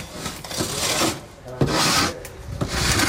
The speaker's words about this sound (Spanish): Con sus palas, 2 soldados tratan de quitar el hielo acumulado en la puerta de uno de los gigantescos módulos hinchables que el ejército de Noruega ha convertido en unos barracones perfectamente equipados para combatir el frío.